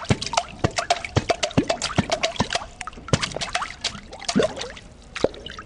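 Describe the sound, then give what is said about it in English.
Cups slapped against water as percussion, the open end and the closed end of a cup giving bass and mid-range sounds, in a busy rhythm: sharp splashy hits mixed with deeper hollow plunks, continuous watery drips and sloshes throughout, no voices. “And then we also use some cups, and using the open end of a cup and the closed end of a cup to get like a bass sound and a more mid-range sound.”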